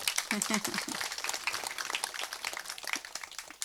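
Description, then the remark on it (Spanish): An audience breaks into steady applause for someone who comes from Veracruz, a dense crackle of many hands clapping that holds for the whole few seconds, with a brief voice heard near the start. “otro aplauso porque viene desde Veracruz, por favor.”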